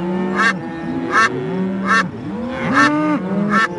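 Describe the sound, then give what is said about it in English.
Ducks and other birds call loudly, sharp honking quacks bursting out about five times in a steady rhythm over a layered chorus of overlapping bird calls, with no talking. “There were chickens and ducks, ostriches and flamingos, just to name a few. Birds of all sizes, big and small, flew onto the ship.”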